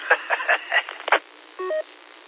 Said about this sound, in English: All right, my phone's ringing here. Let's see who this is. It is my wife.